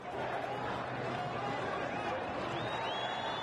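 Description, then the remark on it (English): A large crowd of pro-democracy demonstrators chants and shouts outdoors in Tahrir Square, Cairo, Egypt, waving flags, their rallying cry "Mubarak must go": a dense, steady roar of many voices, with a few whistles briefly rising above the din near the end. “Pro-democracy demonstrators still pouring into Tahrir Square in Cairo this morning. Here's the sound.”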